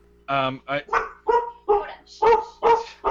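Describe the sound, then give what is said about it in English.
A person imitates a dog barking with about seven short, loud yaps in quick succession, with brief gaps between each bark. “It's a puppy. No, you're attacked by a dog.”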